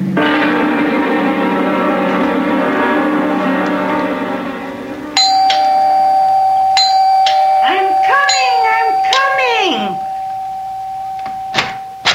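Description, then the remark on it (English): A doorbell rings loudly and insistently at a judge's front door, one long sustained buzzing ring followed by more bright ringing tones, held on for several seconds. “Have to rip the bell off the door, young man.”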